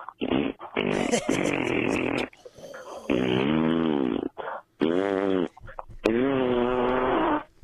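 A string of loud, drawn-out farts, several long blasts with a buzzing, brassy tone and wavering pitch, broken by short pauses and a few quick little bursts, with no talking.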